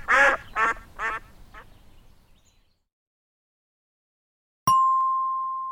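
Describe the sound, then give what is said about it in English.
Three ducks give three loud, nasal quacks in quick succession, then a softer fourth one, followed after a short silence by a single bright chime that rings on steadily. “It's a duck. No, 3 ducks. Quack, quack, quack.”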